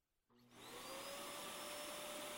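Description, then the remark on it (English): A floor waxer used to polish a floor starts up after a brief quiet moment, quickly rising to a loud, steady mechanical whine with a sustained high-pitched tone running through it. No one speaks. “Whenever this floor waxer gets caught on a cord or a piece of string, it has the tendency to make the most awful screeching”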